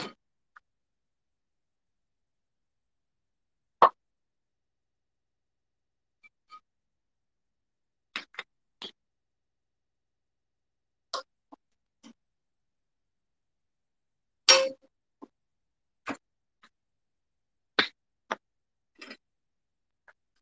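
Sharp, bright clinks and clacks of dishes being taken out of a dishwasher, arriving singly and in small irregular clusters with quiet gaps between them, moderately loud and with no talking.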